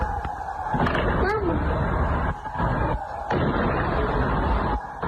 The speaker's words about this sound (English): We cannot confirm whether anyone died in this incident, but this footage sent to us this evening from outside a detention center in the west of the city has what sounds like gunfire.